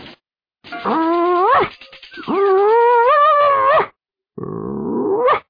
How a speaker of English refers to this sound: Diffo Dog is the best singer.